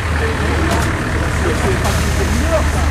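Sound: bus arriving and idling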